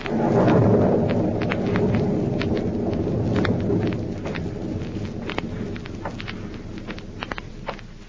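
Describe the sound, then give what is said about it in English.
A low, rolling rumble of thunder swells early and slowly fades, over steady rain with scattered sharp drip-like taps throughout; no voices. A stormy night at an old house, the former hideout of Professor Horn in Illinois. “And now back to Counter Spy, an eerie stormy night at the former hideout of Professor Horn in Illinois.”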